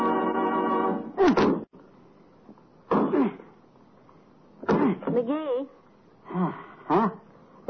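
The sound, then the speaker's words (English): An axe chops a tree in a slow, steady series of about five heavy, sharp thunks, roughly two seconds apart, with short grunting vocal sounds between blows and a brief hum at the start. “Why don't you keep chopping in the same place all the time?”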